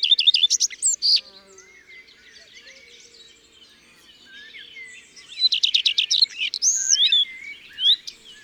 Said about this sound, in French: Et ça, ce sont les cris habituels du rouge-queue à front blanc. Huit ou fuite. Fuite, tic, tic, fuite, tic. Et ça peut durer longtemps comme ça.